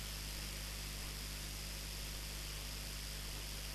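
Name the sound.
car engine idling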